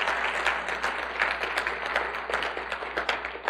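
A church audience clapping together during a sermon, a steady dense patter of many hands clapping at once, sustained and fairly loud throughout with no voices heard.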